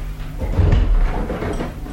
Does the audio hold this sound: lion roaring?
no